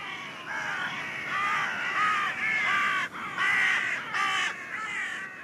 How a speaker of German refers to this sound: Der Rabe gehört zu den Singvögeln und das, obwohl seine Rufe doch ziemlich heiser und krächzend sind. Sein Name ist ursprünglich eine lautmalerische Nachbildung seines nicht gerade stimmgewaltigen Schreiens.